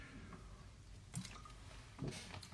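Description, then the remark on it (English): Someone takes a sip of water, with two soft wet gulps about a second apart against a quiet background. No one speaks. “Excuse me, I'm going to drink some water here.”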